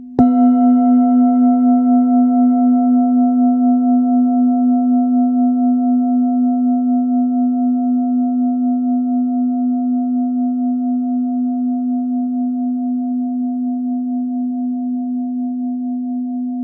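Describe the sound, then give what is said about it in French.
A 1.1 kg Super Bowl Full Moon singing bowl, tuned to B-flat, is struck a second time with a mallet, one sharp strike, then rings on for over fifteen seconds with a deep, steady tone and bright overtones, fading only slightly with a gentle pulsing warble. “Deuxième frappe Mayoche.”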